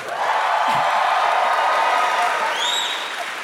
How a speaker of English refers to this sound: Do you guys have a message board where you plan this? Like, it happens every time. No, that's nice. You got some applause this time. That was good.